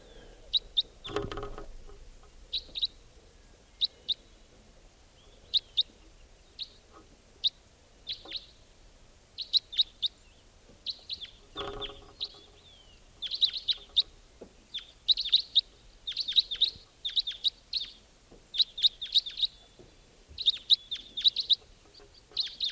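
Repeated short, high chirping calls from a wild white-winged crossbill flying over, recorded at 6:25 a.m., coming in quick bursts that grow busier and louder toward the end, with a couple of brief low thumps early on.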